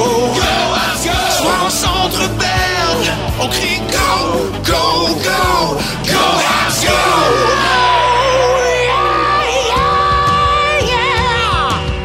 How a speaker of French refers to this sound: Voilà, wow. La chanson officielle du Canadien. On crie Go, Habs, ah, go.